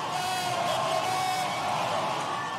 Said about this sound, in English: On the night of November 6, 2018, the crowd at the Orpheum Theater in downtown Madison is going berserk.